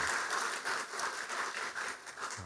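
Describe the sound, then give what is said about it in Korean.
A church audience claps together in steady, continuous applause to thank the choir, a dense wash of overlapping hand claps that holds at an even level for a couple of seconds with no voices. “우리 찬양대 너무 수고 많이 하고 계시는데 우리 감사의 박수 한번 하겠습니다.”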